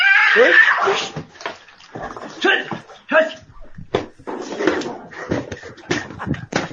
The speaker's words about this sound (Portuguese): Sai! Gato! Sai! Sai! Sai! Cachorro! Sai! Sai! Ela briga, briga! Jugular do gato pegou. Briga de cachorro e gato. Pegou na jugular do gato. O gato não gritou mais, só o cachorro. Briga dos dois.